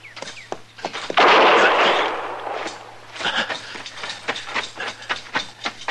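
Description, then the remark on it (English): A loud gunshot blasts out and rings off with a rough, noisy decay, followed by a scattered series of sharp clicks and knocks, with no one speaking. “she slipped him a gun”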